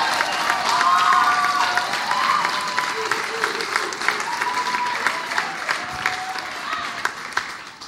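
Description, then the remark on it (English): A church audience of about 100 people applauds steadily with dense, continuous clapping, joined by scattered whoops and high cheering voices rising over the noise before it gradually eases, as a person is called up to give a testimony. “Round of applause.”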